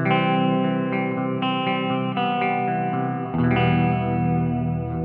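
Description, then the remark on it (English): Clean electric guitar chords played through the clean side of a 65x5 amp ring out steadily with a hall reverb, its time set at about 1-2 o'clock and other controls at about 12 o'clock, smearing each strum into the next, shifting to a new chord partway through. No one speaks. “Yeah, the time's at about 1-2 o'clock, and everything else is, you know, the hall setting and everything else is about 12 o'clock, and that's pretty much just does it for you.”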